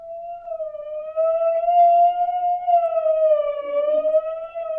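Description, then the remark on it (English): A steady, sustained warning siren wail, sounded as a signal on the Monticello Party Line, holds one strong pitch with bright overtones for about five seconds, rising and dipping only slightly, loud and continuous with no voices. “Party liners, that's the warning siren.”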